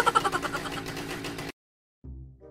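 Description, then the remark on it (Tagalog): A jet ski engine, left without a screw that was forgotten, sputters loudly in uneven bursts, cuts out abruptly into silence, then coughs back to a low, rough rumble a moment later. “La, ano yun? Yari, parang may nakalas sa makina natin ah.”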